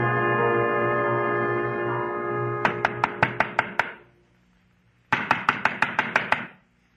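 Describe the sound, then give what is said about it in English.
Two bursts of rapid, sharp knocks on a door, about seven raps each with a pause between, following a steady droning tone that cuts off as the knocking begins. “To knock on a door.”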